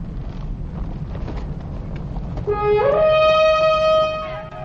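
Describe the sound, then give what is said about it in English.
A low, noisy rumble like wind gives way to a single loud horn blast, sounded as an alarm, that slides upward in pitch, holds steady and bright for over a second, then fades. “That's Joshua's horn.”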